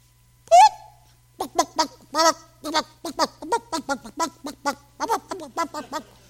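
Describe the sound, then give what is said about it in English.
A mother hen's alarm call warning her chicks of danger in a barnyard: one sharp, rising squawk, then a rapid, insistent run of about fifteen short, loud clucks in an uneven rhythm, with no talking. “And all of a sudden Mama Hen sees it. You know what Mama Hen is? She starts to cluck that alarm.”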